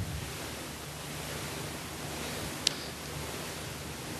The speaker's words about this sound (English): That's a pink noise sound that's sweeping across from the left to the right and back again.